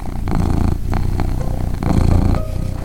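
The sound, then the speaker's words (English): Birdie, a cat, purrs loudly around 6:15 in the evening during her nuzzling and light biting routine, a deep rumbling drone that swells and eases in steady pulses with each breath, with no other sounds around it. “Around 6:15 every evening, Birdie starts her insistent nuzzling, light biting, and absolutely ferocious purring routine.”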